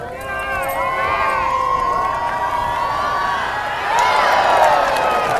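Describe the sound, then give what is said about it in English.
A crowd at a dog disc-toss competition cheers on a dog named Butch during his last toss. Many voices shout and whoop steadily in overlapping rising and falling pitches, swelling louder near the end. “Let's cheer him on!”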